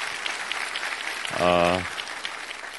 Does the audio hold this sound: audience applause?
yes